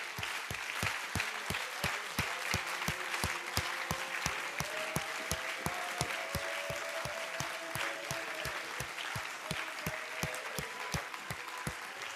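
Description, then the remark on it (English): An audience claps their hands in praise to God, a dense, steady burst of applause from many people that keeps up for about twelve seconds, with a faint sustained tone underneath. “Would you give God a hand clap of praise?”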